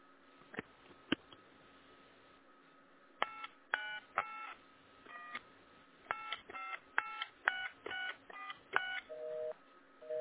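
A phone number is dialed as a quick series of about a dozen bright touch-tone beeps in uneven bursts, after a couple of clicks, and then short, lower busy-signal tones begin at the end. No one speaks.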